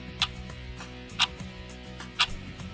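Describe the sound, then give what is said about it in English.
A clock ticks three times at a steady one-second pace, each tick sharp and crisp, over a soft sustained musical tone in the background. “How often do you tell time by the hands on a clock?”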